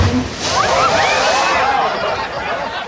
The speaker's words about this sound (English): A few dozen people, mainly tourists and many with small children, are laughing and flinching as they're showered by a killer whale that's splashing around the pool at the Vancouver Aquarium.